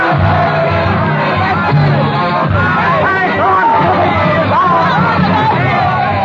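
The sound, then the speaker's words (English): A dense, angry crowd of ragged, bearded patriots with pikes raised swarms in the Rue Saint-Nicaise, roaring and shouting continuously, many voices overlapping into a loud, rough hubbub with occasional rising yells and ragged chant-like singing of a hoarse hymn of hate throughout. “Ragged, bearded patriots, eyes hot with the lust of battle, swarm madly in the Rue Saint-Nicaise, their pikes raised high in the air, their voices lifted in a hoarse hymn of hate.”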